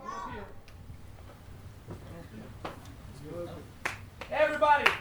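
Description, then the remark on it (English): A few sharp, well-separated claps, several hands striking together at once, land at an unhurried pace among voices talking and chanting, as a group claps to start a "Sí se puede" chant. “So we're going to start with a clap. When we're all clapping,”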